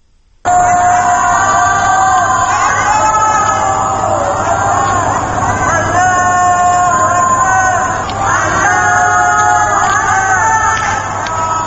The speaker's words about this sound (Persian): شب گذشته همانطور که از پیش اعلام شده بود، از بام‌های شماری از منازل در شهرهای مختلف ایران و همچنین در صحنه برخی از دانشگاه‌های ایران فریاد الله اکبر شنیده می‌شد.